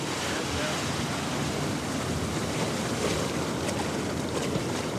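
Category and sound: nature, ocean surf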